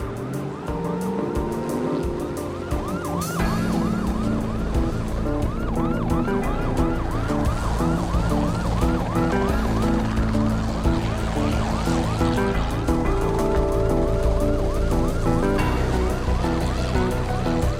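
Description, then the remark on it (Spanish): Multiple police sirens wail continuously with rapid rising-and-falling yelps, layered over heavy engine rumble and road noise, loud, as police patrol cars race along together chasing a fleeing pickup truck. “Las patrullas y el helicóptero no lo perdieron de vista a pesar del peligro.”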